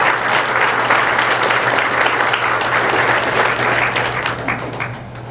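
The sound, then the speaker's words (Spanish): A church audience bursts into loud, sustained applause to the Lord, dense clapping filling the whole clip with a steady low hum beneath, fading slightly toward the end. “¿Cuántos dan un aplauso fuerte al Señor por esa gente?”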